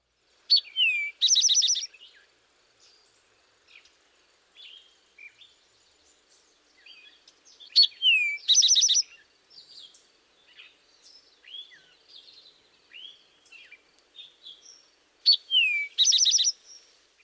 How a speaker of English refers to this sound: Our final bird is the rufous-sided towhee. You may hear this species scratching about in the leaves searching for a meal. The towhee's song is comprised of two clearly whistled notes followed by a trill.